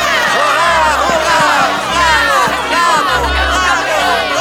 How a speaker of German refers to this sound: Als das Steinvolk sein schönes neues Zuhause sah, kannte der Jubel kein Ende.